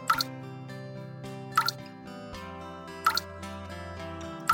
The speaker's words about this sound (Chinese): 觉得水滴声很有趣的斑斑，于是拉了一张椅子，趴在琉璃台上，盯着水滴一滴一滴的滴下来。